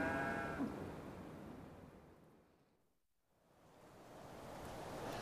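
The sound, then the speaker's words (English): A cow lets out a short, mournful moo at the very start, partly buried in a steady rush of wind-like noise that fades to near silence and then swells back. “They almost sound as if they're crying for Tony.”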